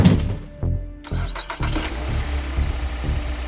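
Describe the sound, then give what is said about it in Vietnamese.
A car engine cranks and catches after a few sharp knocks, then settles into a steady, low rumbling idle. No one speaks. “Cô cảm thấy chiếc xe khởi động, những rung động của động cơ vang qua lớp hộp các tông.”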